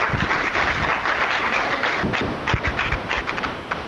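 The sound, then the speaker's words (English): An audience at a chamber meeting applauds to welcome businesses to the chamber, a dense, steady wash of many hands clapping that holds at an even level for a few seconds, with no voices over it. “So let's welcome them to the chamber by giving them a round of applause.”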